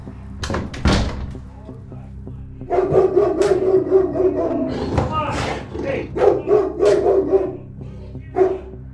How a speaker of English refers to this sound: That's a big dog. He's just very protective.